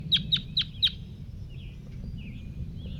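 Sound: crossbill calling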